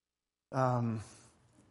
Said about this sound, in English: You're still yawning.